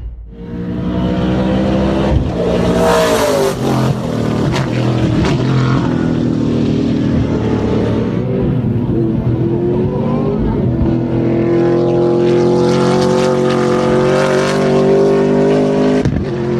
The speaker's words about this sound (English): This might just be a little taste. Of course, it's not the final version, still testing these engines. But just to give you a taste, this is what it sounded like.